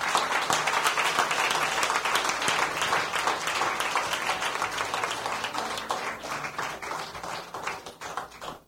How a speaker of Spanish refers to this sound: Un aplauso para ellos.